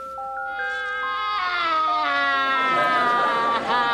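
A baby wails loudly and without pause, the crying climbing in pitch in stepped, drawn-out cries that swell into a strained, tearful howl by the end.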